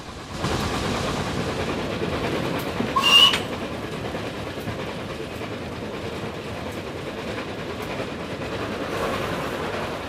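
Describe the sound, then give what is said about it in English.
The steam locomotive Flying Scotsman, number 60103, rumbles steadily along the rails for the whole stretch, with a short, sharp steam whistle blast near the start as the train approaches a small bridge. No one speaks. “sounds the whistle as the train approaches a small bridge.”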